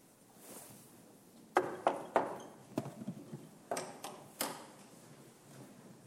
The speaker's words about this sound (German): Schau, da drüben, Gasthof Goldener Schwan. Da fragt mir zuerst. Komm, ich klopf an.